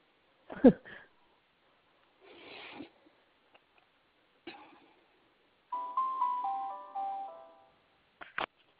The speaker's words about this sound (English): Oh, that was a nice little bell.